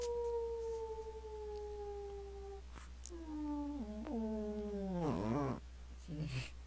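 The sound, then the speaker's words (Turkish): A voice imitates a cat's meowing: a long, steady drawn-out tone, then several wavering, bending meow-like calls, ending in a short final mew. “Miyavla bakayım.”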